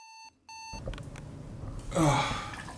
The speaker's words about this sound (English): Just a few hours later, my alarm clock rang and it was time to go.